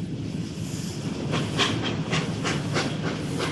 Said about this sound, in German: Die Luft knisterte vor Spannung, als am frühen Morgen des 5. Juli 1841 die Lokomotive in den Bahnhof von Leicester einfuhr. 9 Waggons zog sie hinter sich her.